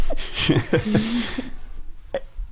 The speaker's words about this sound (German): Rülpst du vor deiner Familie? Manchmal. Mit Absicht? Ja. Und kannst du auf Bestellung rülpsen?